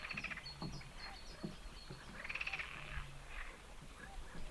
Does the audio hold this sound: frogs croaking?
yes